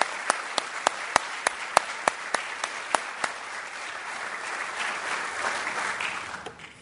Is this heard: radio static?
no